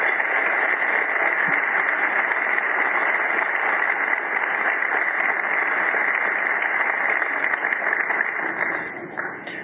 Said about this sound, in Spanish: Y desde aquí, a los maestros que nos acompañan, todo mi reconocimiento. Démosles un aplauso a todos los maestros que están hoy aquí con nosotros.